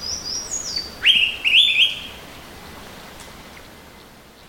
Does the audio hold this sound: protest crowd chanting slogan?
no